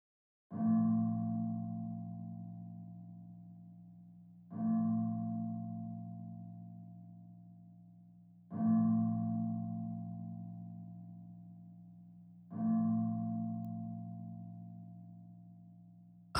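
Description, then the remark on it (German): A bell is struck four times at an even, slow pace, about every four seconds, as a rhythm to follow for breathing in and out during a breathing exercise. Each low, ringing tone swells in instantly and fades gradually before the next strike, with no voices. “Nun folgen Sie bitte dem Rhythmus des Glockenklangs.”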